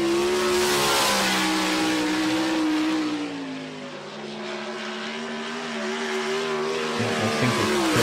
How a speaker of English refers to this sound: This is my son. He's 19 years old, and this is his 410 sprint car. Yeah, these things are terrifying. And this is at my track, by the way. I own this track.